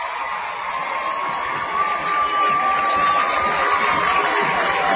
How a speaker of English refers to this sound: And that gives the home crowd a little something to cheer about from Montgomery County.